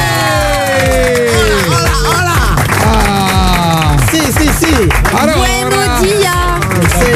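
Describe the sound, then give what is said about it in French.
Studio audience applause for mariachi musicians joining a morning show in the studio: steady loud clapping runs through the whole stretch, mixed with many overlapping voices cheering and calling out at once. “Ah, applaudissements, les amis, pour ceux qui viennent nous rejoindre comme chaque jour depuis mardi.”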